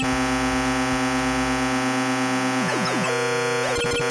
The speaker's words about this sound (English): It's a constant beeping. What is this? It's Star Fox from Mythicon, of course, the third and final game of their lineup.